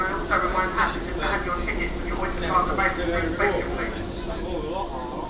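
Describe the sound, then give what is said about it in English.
Steady low rumble and constant hiss inside a moving passenger train carriage, with a passenger service agent speaking an announcement over the continuous background noise throughout. “I am the passenger service agent on this service today.”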